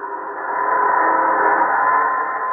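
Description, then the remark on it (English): A train sounds a long, steady whistle, one sustained tone that swells slightly and holds loud for a couple of seconds, with no voices, as it carries commandeered food across the great plains of Manchuria down to the seaports on the Yellow Sea. “Across the great plains of Manchuria, it is taken by train down to the seaports on the Yellow Sea.”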